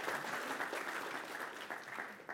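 An audience applauds steadily for a couple of seconds, a dense, even patter of many hands clapping at a fairly quiet level, with no voices over it.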